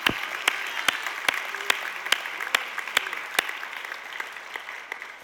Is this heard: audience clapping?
yes